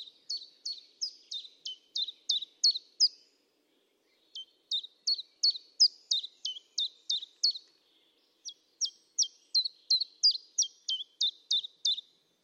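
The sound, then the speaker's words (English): A bird sings in three clear bursts of rapid, evenly spaced high chirps, each phrase lasting a few seconds with brief pauses between, fairly loud against a silent background. “I love the fact that the birds also responded to the fact that there was less human noise and suddenly their territories got all the more fiercely protected.”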